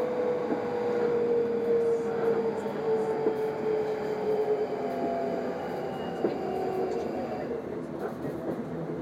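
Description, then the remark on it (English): Inside a moving passenger train bound for Edinburgh Waverley, next stop Shettleston: a steady rumble of wheels and carriage with a sustained electric motor whine, continuous and even throughout, plus a few faint clicks and knocks. “Please mind the gap when alighting from this train.”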